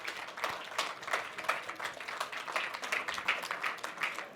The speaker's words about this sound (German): Und damit begrüßt mit mir mit einem donnernden Applaus